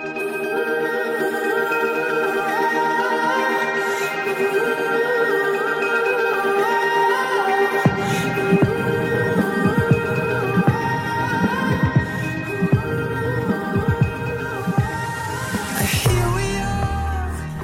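A music track plays steadily and fairly loud, opening with sustained layered tones before a deep, pulsing beat joins about halfway through, with no one talking over it.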